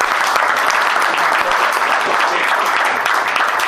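Sustained applause from a crowd, a dense steady patter of many hands clapping at once, loud and even throughout with no talking over it.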